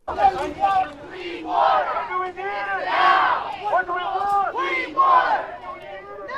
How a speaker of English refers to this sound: Asking for clean water. Those demonstrators were gathered in Newark yesterday to protest elevated lead levels in the city's drinking water.